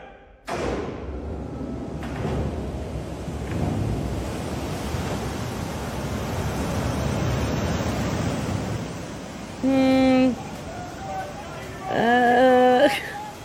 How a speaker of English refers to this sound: It's a big giant water thing hitting.